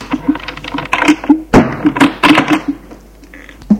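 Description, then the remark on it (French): A solid thunk of a door swung shut by a man lands mid-clip amid a busy run of small knocks and clicks, followed by quieter rattling handling sounds fading near the end. “Il referme la porte.”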